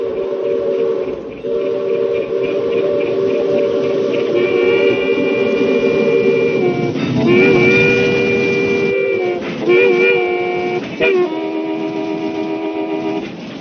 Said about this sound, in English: WSM presents a unique broadcast each afternoon at 8 minutes past 5 o'clock when the crack Pan American passenger train passes WSM's radio tower, the tallest in America. The whistle and actual rush of the train are broadcast.